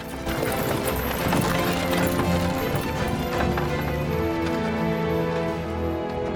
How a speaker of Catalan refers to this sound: assegut en un carro tirat per un cavall, arria l'animal, que trota per boscos i camins.